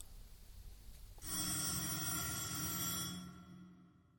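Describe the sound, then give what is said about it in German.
A telephone bell, the first call of the afternoon to Mayor Rabeling, starts ringing abruptly after a quiet stretch of low background noise, a loud, bright, sustained metallic trill that rings on for a few seconds before fading slightly at the end. “Kannst du hören, von wo das Klingeln kommt?”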